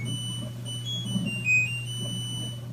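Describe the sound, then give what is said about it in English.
A short, shrill electronic appliance beep sounds once over a steady low hum and a faint high whine, fairly quiet and with no one talking. “Obviously, we've come a long way from those harsh beeps and buzzes.”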